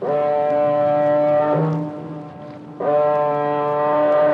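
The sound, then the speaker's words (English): A car ferry's horn sounds two long, loud, deep blasts rich in harmonics, separated by a brief lull with a low rumble, as the ferry looms out of fog in the English Channel. No one speaks. “A car ferry looms out of the fog in the English Channel.”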